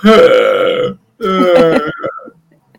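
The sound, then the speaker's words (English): A dog, Levi, growls at a smaller dog, Lilo: two loud, croaky 'old man' growls, each under a second long with a short pause between, the second trailing off into a softer rumbling grumble. “Now he's doing his old man growl.”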